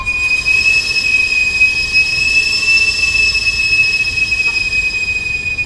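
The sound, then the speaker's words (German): A street vendor's shrill whistle on a residential street in Mexico City holds one steady, piercing high tone for several seconds without a break, ringing over a low, rumbling background noise. No one speaks. “Das Pfeifen ist von weitem hörbar und man kann abschätzen, ob es sich entfernt oder näher kommt.”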